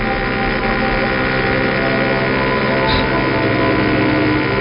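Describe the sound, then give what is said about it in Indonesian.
A motorcycle engine rumbles steadily and loudly from behind, its exhaust droning with a constant low throb that holds for the whole stretch without letting up. “Terdengar suara knalpot motor belakang.”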